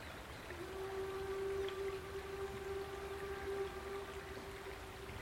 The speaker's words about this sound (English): There's another steam train.